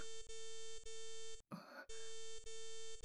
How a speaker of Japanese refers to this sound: この通知音は、魔法のスクリーン。しかもボスから全組織員に向けてって、一体何を？